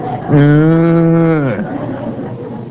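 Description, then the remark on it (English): A person gives one long, steady moo in imitation of a cow, a loud drawn-out low call lasting about a second, which then fades into quiet. “They just stand there and go,”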